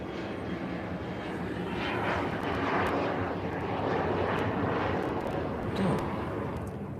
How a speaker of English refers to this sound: That's quite a large plane that took off from there. I can't figure out what it is, but it's It's a big one.